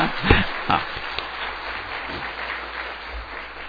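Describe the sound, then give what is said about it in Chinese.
An audience breaks into applause, opening with a few sharp, louder claps before settling into a steady, even wash of many hands clapping together, with no voices over it. “哦，鼓掌忘记了。”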